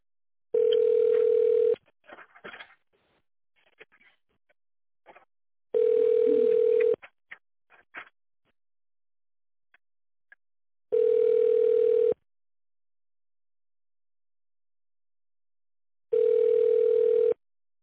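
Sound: telephone ringing tone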